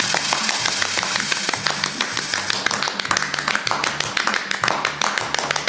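A burst of steady, crackling applause from a small group for the winner of a game round keeps up at an even level for several seconds, with a low, pulsing hum running underneath.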